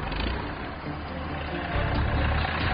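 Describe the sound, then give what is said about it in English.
A forklift, driven by a new worker in training beside a plane, idles with a steady, low, rough rumble that swells a little louder toward the end as the machine moves. No one speaks. “The last thing you want to do is put the forks through the side of Joe's plane.”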